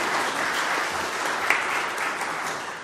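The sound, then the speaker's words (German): A crowd applauds steadily, many hands clapping in a dense, even wash of sound that holds at a constant level for a few seconds without speech. “Danke für den Applaus, ich habe niemandem ein Zeichen gegeben”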